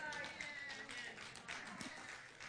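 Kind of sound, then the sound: crowd, scattered audience clapping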